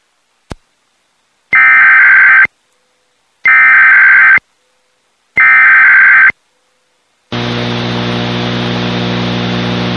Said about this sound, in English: This station is participating in a required monthly test of the Illinois Emergency Alert System. This system was developed to provide information to the public during emergencies. This was a test.